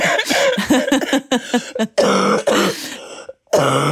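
A harsh fit of coughing and throat clearing, several rough bursts in quick succession with brief gaps, ending in a final loud hack after a short pause.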